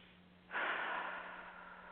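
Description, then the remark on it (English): A single deep, airy breath begins after a brief quiet moment and carries on steadily to the end, fairly loud, with no talking. “As the normal, natural breathing begins occurring,”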